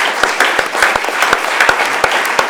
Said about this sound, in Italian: Applauso anche all'interpretazione, mi sembra di capire.